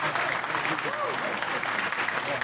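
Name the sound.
audience applause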